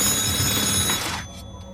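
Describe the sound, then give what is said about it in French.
A home telephone rings at night in one bright, rattling burst for about a second, then cuts off and leaves a faint ringing tail. The sound is fairly loud, with no voices. “Le téléphone sonne chez Arthur et Mildred Ferrin.”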